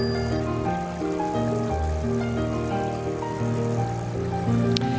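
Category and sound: nature, flowing water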